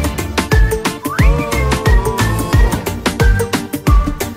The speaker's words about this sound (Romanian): Bagă fluiericiu, mă. Bagă, mă.